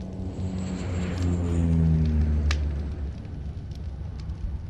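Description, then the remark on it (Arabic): A low, droning aircraft engine swells and passes overhead, its pitch sliding slightly downward before it fades, with rough crackling noise underneath and no voices. “عادت مجددا، جاءت طائرة مجددا.”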